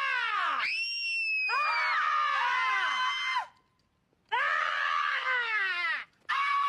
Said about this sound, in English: Oh, really, the little girl thinks because she can scream, she can get away with everything? I can scream too.